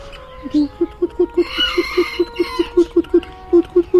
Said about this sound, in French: Là, vous avez des poules, ce qu'on appelle les nègres soies.